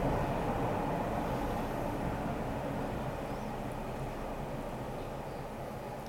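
A train rolls past with a steady, heavy rumble and clatter that holds for several seconds before easing off only slightly. There are no voices.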